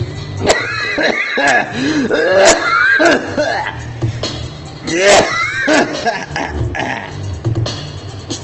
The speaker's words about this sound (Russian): Кашлять под бит.